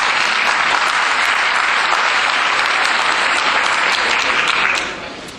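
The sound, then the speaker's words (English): Loud, sustained audience applause at a lecture, a dense patter of many hands clapping steadily before easing off slightly at the very end. No voices stand out above it. “Everybody a round of applause and I'll explain to you why.”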